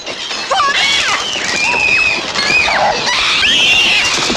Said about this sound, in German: Während die Party in vollem Gange war, griff plötzlich ein Schwarm Möwen die Kinder an.